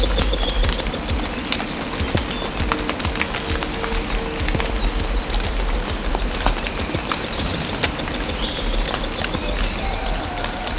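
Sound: birdsong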